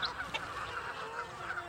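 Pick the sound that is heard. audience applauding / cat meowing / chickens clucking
chickens clucking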